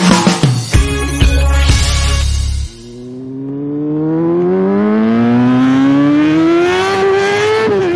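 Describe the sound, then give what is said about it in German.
A motorcycle engine roars loudly with a rough, throaty burst, then its pitch climbs steadily in a long, smooth rising whine as it accelerates. No voices are heard. “Beim schönen Wetter ist Motorradfahren wieder angesagt und das hat leider auch seine Schattenseiten.”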